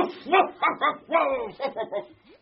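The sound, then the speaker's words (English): A giant Pyrenean mountain dog barks in a rapid series of about seven deep, throaty woofs, one drawn out into a longer howling bark, then fades off. “A giant Pyrenean mountain dog!”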